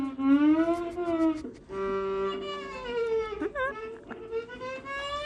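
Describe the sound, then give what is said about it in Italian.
A beginner scraping away at a viola, drawing long, wavering bowed notes that slide off pitch and sound whiny and strained, with no talking. “Sentila come piange, la tua viola non ne può già più.”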